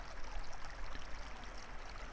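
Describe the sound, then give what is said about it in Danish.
Steady flowing water, a continuous bubbling wash of noise like a stream running over stones, soft and even throughout with no voices. “Når dit fokus er på lyden af vand, og følelsen af, at vandet har den rensende effekt på hele dit system, kan tankerne tage en fortjent pause.”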